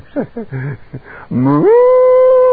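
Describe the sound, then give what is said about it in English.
A human voice imitates distressed cow lowing: a few short broken calls, then a long, loud, rising moo that holds steady to the end, unaccompanied. “So all the cows were crying, and they saw this big fire.”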